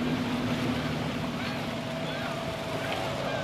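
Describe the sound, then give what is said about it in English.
A neighbouring boat at a fish farm blows fish feed into the pen beside it: a steady, loud mechanical whoosh over a low engine drone, continuous for the whole stretch with water and wind noise around it. “Now there's a feeding frenzy going on in the pen we're beside, because the man in the next door boat is blowing out all the feed.”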